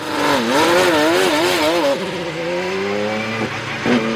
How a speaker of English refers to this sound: Here's what IndyCar sounds like.